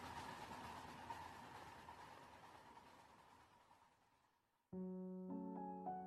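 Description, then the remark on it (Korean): A train starts to move, rumbling along with a steady mechanical drone and faint tonal whine, gradually fading over several seconds before sustained musical tones abruptly take over near the end. “결국 움직이기 시작한 기차에 뛰어올랐다.”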